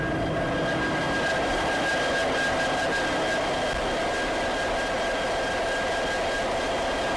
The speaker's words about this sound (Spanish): Bueno, ya os he advertido de que había mucho ruido. Es una locomotora diésel que funciona con un motor General Motors de 16 cilindros, porque tiene que estar preparada para llevar muchas toneladas, que es lo que llevan los trenes de mercancías.